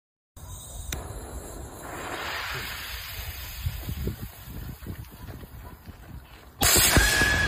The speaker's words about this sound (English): The next one's, this is the craziest firework because they engineered the sound it makes, and it's supposed to sound like someone screaming.